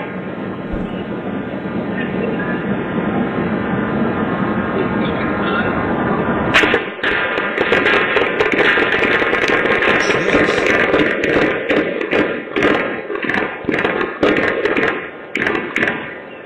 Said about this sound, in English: Yeah, this was... the audio of the shooting was captured on a Ring doorbell video, so you can hear what happened.